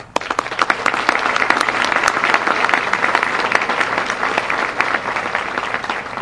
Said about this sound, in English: we as members applaud you